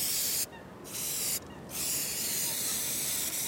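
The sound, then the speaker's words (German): An aerosol spray can hisses in steady bursts, with two brief pauses where the spray cuts off before resuming for a long continuous spray, as two park workers in green jackets spray a bench to remove graffiti. “Jetzt sind allerdings zwei Männer in grünen Jacken und mit tief sitzenden Wollmützen über die Bank gebeugt und hantieren mit einer Sprühdose.”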